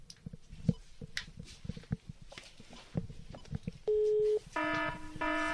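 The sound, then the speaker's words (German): A series of soft clicks and taps gives way to a steady, loud telephone dial tone, which cuts off briefly and resumes as a buzzier tone. “Oh, Freizeichen, das funktioniert.”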